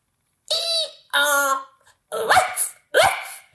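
A dog barks four times in close succession, each bark loud, drawn-out and harmonic, with short gaps between and nothing else in the background.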